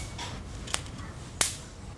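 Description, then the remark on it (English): Two sharp, crackling zaps as mosquitoes hit an electric bug racket, about two-thirds of a second apart, each a brief bright snap over a low, steady background hum. No one speaks. “That is the sweet sound of mosquitoes hitting the racket.”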